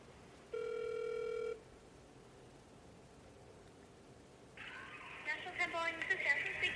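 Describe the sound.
One steady electronic ringback tone sounds for about a second on a phone call to National on 10th, then quiet line hiss until a thin, muffled voice starts speaking over the call.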